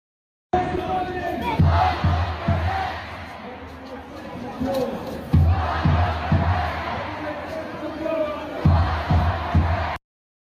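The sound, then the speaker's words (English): A large pro-Hamas protest crowd in Toronto, Canada, chants for the decapitation of Israelis ("off with their heads") in loud rhythmic unison, the same short phrase repeating in punchy bursts with brief pauses, the mass of voices continuous. “Chanting off with their heads.”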